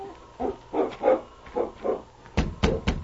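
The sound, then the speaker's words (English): A dog, King, left outside with the husky sled team, gives a string of short, whining yips, then three sharper, louder barks in quick succession, with no one talking. “If there's a sick man in there, it's no place for a dog.”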